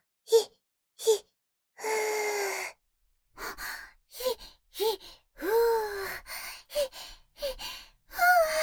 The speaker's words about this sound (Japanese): もっと落ち着いて。深呼吸だよ。